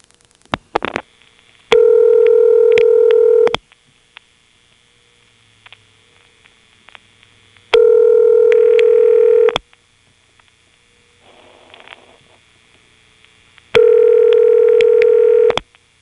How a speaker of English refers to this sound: Let's try dialing a local ringing number, dialing only the last five digits.